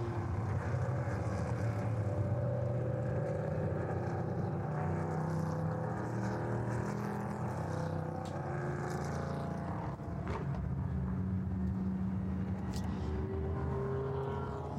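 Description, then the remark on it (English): A steady, continuous drone of several race car engines circulating behind the safety car during an IMSA race, rolling along at a restrained, even pace, with a thick low rumble throughout, some passing noise and no sharp revving. “Still circulating behind the safety car.”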